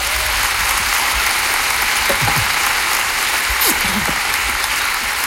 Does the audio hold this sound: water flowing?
no